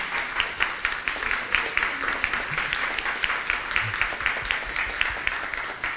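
An audience gives a thank-you applause for two people, many hands clapping in a dense, sustained patter at an even level for several seconds with no voices heard.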